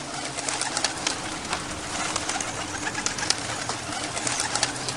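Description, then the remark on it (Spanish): A dense flock of small birds chirps and twitters continuously, many overlapping calls forming a busy, steady chorus with a low rumbling background and no voices. “Todos los pajaritos, que eran cientos, levantaron entre aleteos a Ain”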